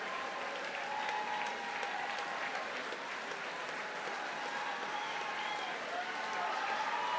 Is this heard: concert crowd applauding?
yes